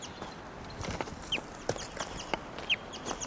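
A few brief, high chirping bird flight calls break through at irregular moments as someone walks toward the bird, set against a steady hiss and scattered soft crunching steps and clicks. No one speaks.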